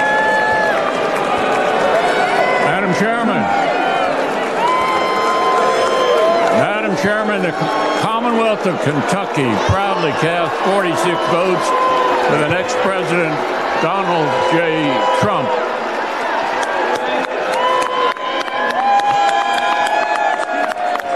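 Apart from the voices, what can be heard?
convention crowd booing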